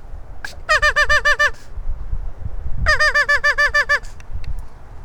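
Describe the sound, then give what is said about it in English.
Two quick bursts of nasal, duck-like quacking from a duck call aimed at a mallard hiding under a bank, about six notes then eight, loud over a low outdoor rumble, with no talking. “Let's see if we can quack him.”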